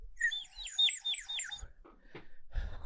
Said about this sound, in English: Will you play the bird again? Yeah. That's beautiful.